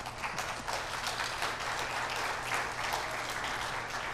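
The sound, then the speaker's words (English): An audience applauds a couple's 50th wedding anniversary, many hands clapping in a dense, continuous patter that holds at an even loudness throughout, with no voices rising above it. “Can we clap for them?”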